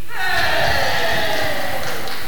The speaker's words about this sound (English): So let's have, from this side, a cheer for this team. Right. I think we could do a bit better than that. Let's try that again. Let's have a cheer for this team.